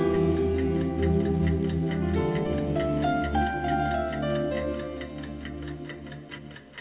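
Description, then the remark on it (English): A clock ticks in a steady, even rhythm for several seconds, crisp clicks layered over a sustained, low humming drone of held tones, with no voices. “And I hope as you listen to that, you heard that time is clicking past.”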